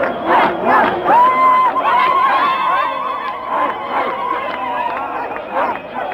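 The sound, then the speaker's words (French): A large crowd of Black and white people in the streets of Johannesburg cheers and shouts continuously, celebrating Nelson Mandela becoming president, many voices overlapping in a loud, excited roar, with high whoops and a sustained wavering call rising above the din. “Les rues de Johannesburg, à l'ordinaire si vide, réchauffées par une foule enthousiaste, noirs et blancs mélangés.”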